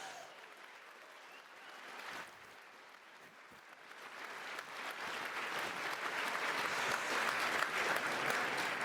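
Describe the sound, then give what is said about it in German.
An audience claps for a speaker after a talk on CSS, a dense wash of many hands that swells gradually louder over several seconds and keeps building toward the end, with no one speaking over it. “Noch eine Runde Applaus, bitte.”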